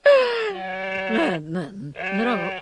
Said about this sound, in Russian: Да вот же она, прости, Господи. Коза! Манька, Манька, голубушка.